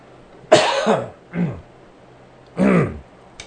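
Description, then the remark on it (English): A dry cough caused by dry mouth, followed by a short throat clearing, then another harsh cough a moment later, three rough bursts in all with quiet between them and no talking. “That's dry mouth, not COVID cough.”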